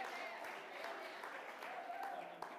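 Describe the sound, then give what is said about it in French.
A crowd applauds a preacher's joke about the tithe, a dense, even patter of many hands clapping at once that holds a constant level for the whole short stretch. “On l'applaudit.”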